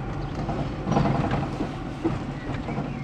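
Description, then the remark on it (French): Steady rumbling road noise inside a moving car on the road to the Col du Fresne, with a deep low drone and light mechanical rattles and clicks coming through at a moderate, constant level. “Ma voiture fait beaucoup de bruit, hein ?”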